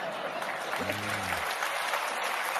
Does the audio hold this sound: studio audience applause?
yes